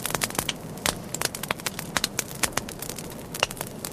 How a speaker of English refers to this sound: Maybe light the fire on your remote control fireplace.